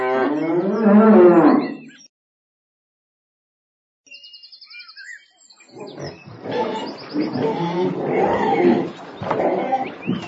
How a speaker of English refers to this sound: This is our farm. Look at these. What are they? They're cows.